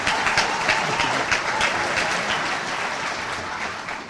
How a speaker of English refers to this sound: Did you see a signal? But this is a better one. This is for spontaneous applause. Yeah.